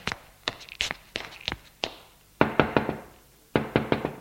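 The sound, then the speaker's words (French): Knocking on a bedroom door, crisp: a few scattered raps, then two quick bursts of four or five firm knocks with a short pause between. No voices. “Ils vont frapper à la porte de la chambre.”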